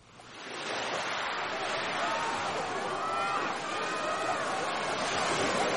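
A steady, full wash of ocean surf at the seaside on a hot, bright day fills the scene, rising in over the first half second and holding loud and continuous, with faint murmurs of voices mixed in.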